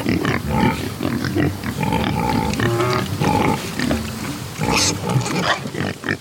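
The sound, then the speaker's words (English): Dozens of black Iberico pigs on a farm in Georgia grunting, squealing and snuffling while rooting in the dirt and wallowing in muddy puddles under a pecan tree, overlapping continuously with harmonic squeals rising above a busy, rustling farmyard background. “Finally, we get to what I really came here to see. Iberico pigs. Dozens of them.”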